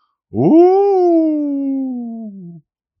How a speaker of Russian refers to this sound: Вдруг совсем рядом за стеной избушки завыл волк.